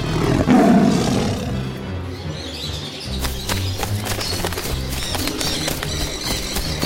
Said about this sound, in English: I think I see a lion. Roar, roar, roar!